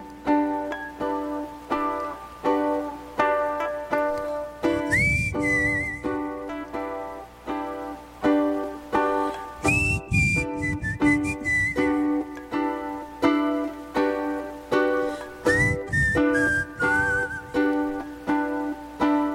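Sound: human whistling a melody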